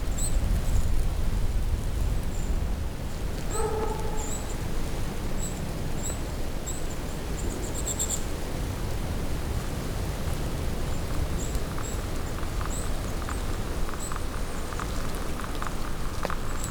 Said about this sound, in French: Le léger bruissement de la forêt à l'approche du col.